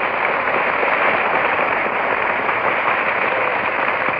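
A studio audience applauds steadily for about four seconds, a dense, even wash of clapping that holds at a constant loudness with no voices over it.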